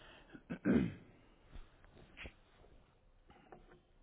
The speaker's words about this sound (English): Sorry, I have a cough.